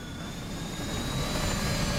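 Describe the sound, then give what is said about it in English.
A helicopter roars steadily overhead as it soars out across a city, a dense, continuous engine drone with a faint high whine, holding loud and swelling slightly toward the end, with no voices. “The helicopter soars out across the city.”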